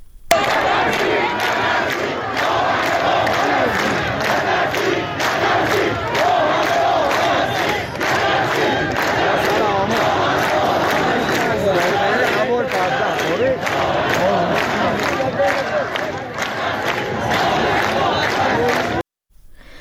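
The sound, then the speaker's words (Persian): A large crowd of protesters shouts and yells continuously in loud, dense, overlapping voices during clashes with motorcycle police and Basij forces in the dry bed of the Zayandeh Rud, throwing stones and setting police motorcycles on fire, with rising surges of cries and scattered sharp noises throughout, ending abruptly. “در جریان درگیری‌ها، معترضان با پرتاب سنگ و در چند مورد آتش زدن موتورسیکلت های نیروی انتظامی سعی کردند در برابر نیروهای امنیتی مقاومت کنند.”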